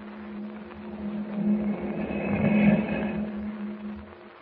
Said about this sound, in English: Yes, what can it be? What is the meaning of the strange moan heard in the darkness of Jimmy's cabin?